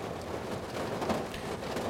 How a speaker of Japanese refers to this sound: お、なんかごめん。急に雨が降ってきてさ、ちょっと雨の音が。